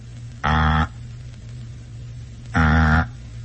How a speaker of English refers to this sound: It's the sound of a number being rung.